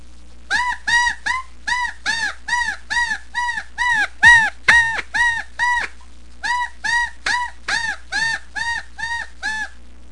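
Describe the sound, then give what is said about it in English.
A reed predator call, blown with the teeth placed directly on the reed in short, even bursts of air, imitates a woodpecker's distress cry to call predators such as coyotes: about twenty shrill, squealing notes in a fast, steady series with one brief pause, loud, with no talking. “This is the typical sound a woodpecker makes when he is in distress.”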